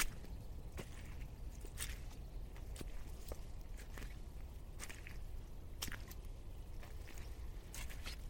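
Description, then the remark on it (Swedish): Footsteps squelch through wet mud in a forest as the snow melts, at a steady walking pace, about eight soft, wet squishes over a low, constant background rumble. No one speaks. “Och det är blött och gyttjigt där jag går.”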